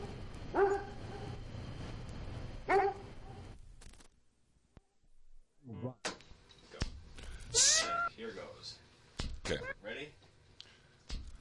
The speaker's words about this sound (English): I'm threatening this small woman with this very large dog in order to publicize our new radio show, Midnight Mondo, with the Ogden Etzel.